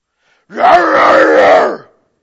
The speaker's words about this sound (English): I'm sorry, whoever's crying, I'm sorry.